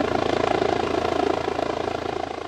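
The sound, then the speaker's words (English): A helicopter flies by, its rotor blades chopping in a fast, steady rhythmic thud over a constant engine whine, loud and unbroken throughout. “Our Midlands correspondent Kieran Mullooly reports now on the battle to keep the chopper in the skies and the remarkable story of some people who owe their lives to its valiant work over the last 12 months.”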